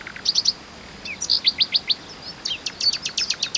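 A male nightingale sings a rapid, varied phrase sequence: quick repeated high chirps, a few sweeping whistled notes, then fast rhythmic trills, all clear and loud with no talking.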